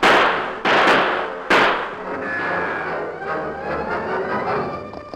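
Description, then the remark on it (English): Three sharp gunshots crack out in quick, uneven succession, each a loud burst, followed by a lingering rumble and faint ringing tones as the echoes fade away; crooks firing at troopers. “Those crooks are busy firing at the troopers.”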